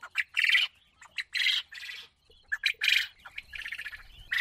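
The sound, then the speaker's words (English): Domesticated quails in Zimbabwe call in repeated bursts of harsh, squawky chirps, several overlapping calls, moderately loud, with brief pauses between them and no talking. “Large numbers of Zimbabweans are making a living through selling domesticated quail birds”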